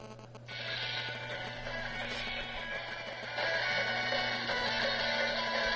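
A fast rock version of the Metal Gear theme, an MP3 set as a ringtone and sped up, plays on a phone being called, heard through the phone line, sounding compressed and tinny. It runs steadily with no one talking and grows a little louder about halfway through.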